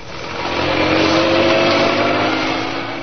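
A car carrying two police officers roars loudly and steadily as it careens out of the gates of Scotland Yard and speeds out of London toward Essex, swelling up over the first half second and holding at a strong, gritty drone before easing slightly at the end. No voices.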